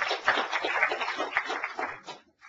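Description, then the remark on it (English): A crowd at Philly Code Camp applauds the event's sponsors with a dense, steady patter of many hands clapping at once, holding for about two seconds before thinning out and fading away. “Let's everybody give a little round of applause for our sponsors.”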